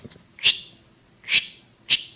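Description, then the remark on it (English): Sharp wave ripple neural activity, an aperiodic bursting pattern that occurs when an animal stops moving, rendered as sound: three brief, loud, crackling bursts with a bright hissy edge, rising out of faint low static at uneven intervals, with no talking. “goes away and is replaced by a different pattern of activity, this aperiodic bursting, that in older literature was referred to as large regular activity, now is commonly referred to as sharp wave ripple activity, but it sounds something like this.”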